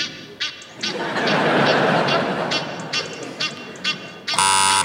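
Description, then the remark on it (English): An Egyptian goose calling, played in reverse: a run of harsh, raspy honks and wheezy bursts over a loud, hissy rush, closing with a brief, buzzy, strongly harmonic blare. “It's actually an Egyptian goose, not to be confused with a Canada goose, which, of course, is an overpriced anorak.”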